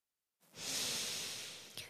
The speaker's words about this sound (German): Einmal tief durchatmen und Danke sagen bei den Ozeanen.